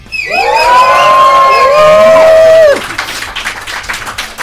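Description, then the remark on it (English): A crowd of people at a live event at Columbia University in New York City lets out a loud, sustained roar imitating lions, voices rising and holding for a couple of seconds before breaking into scattered cheering and clapping. “Let's hear you lions roar.”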